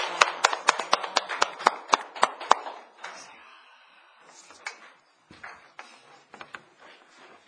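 A group claps together in a quick, steady rhythm for about two and a half seconds, applauding the risen Lord, then the applause breaks into softer, scattered claps that trail off unevenly.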